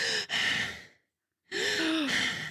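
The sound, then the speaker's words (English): A woman imitates heavy, creepy breathing: a long raspy exhale, a brief silence, then a second loud, strained gasping breath, with no words spoken. “And then you can hear the breathing and she's just like.”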